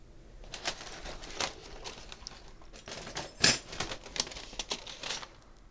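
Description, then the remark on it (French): Keys being handled while someone clears out their office: scattered metallic clinks and light jingles over several seconds, with one brighter, louder rattle midway and soft clicks around it. No one speaks. “Alors là, j'ai des clés.”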